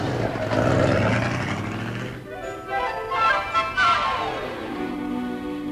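The engine of a new convertible car rumbles loudly, then changes pitch and fades as the car pulls away after dropping off a passenger, with faint voices briefly audible in the middle.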